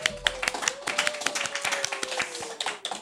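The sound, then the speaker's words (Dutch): A burst of applause for actors from a small group, sharp overlapping hand claps at a steady quick pace, moderately loud, with a faint steady tone humming underneath throughout. “Geef de acteurs een heel groot applaus.”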